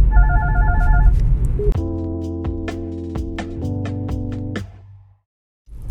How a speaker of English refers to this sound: You probably heard that loud ringing. That was my Bluetooth. My mother was calling me.